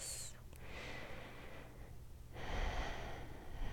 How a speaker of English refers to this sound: Feel my breathing. There you go.